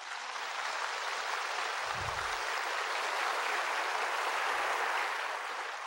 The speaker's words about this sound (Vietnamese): Cho nên tôi hy vọng cho kiếp sau, xin quý vị cho một tràng pháo tay mừng dùm cho tôi.